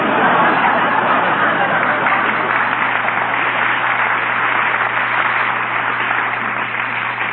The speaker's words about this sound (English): Look, pal, the crowd's getting a little impatient here.